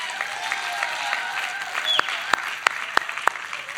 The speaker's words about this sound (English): Generation of God's kingdom. Can we say that? Can we clap more for that?